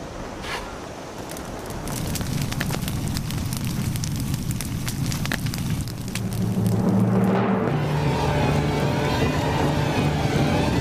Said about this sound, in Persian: آتش در نی میفکنم تا ناله سوزناکش هر شنونده ای را مجنون کند.